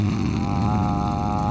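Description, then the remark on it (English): A person imitates snoring with a loud, steady, rattling low drone that lasts about a second and a half. No words are spoken. “That was me snoring because I'm on the nod from all the pills.”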